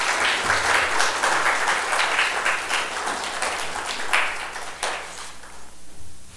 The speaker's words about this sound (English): Why don't we give them a round of applause for showing up to church this morning?